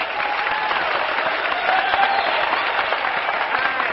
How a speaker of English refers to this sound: Y'all come out and give a nice big round of applause